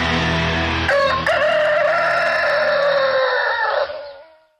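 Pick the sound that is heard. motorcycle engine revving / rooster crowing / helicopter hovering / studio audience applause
rooster crowing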